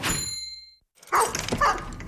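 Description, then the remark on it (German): A dog barks twice in quick succession, fairly loud, after a short ringing tone fades into a moment of silence. “Wem gehört denn der Hund?”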